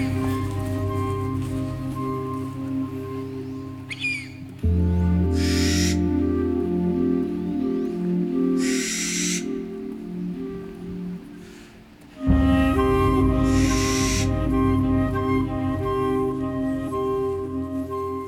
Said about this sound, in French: Finalement, à part les oiseaux